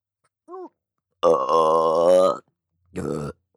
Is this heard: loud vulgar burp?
yes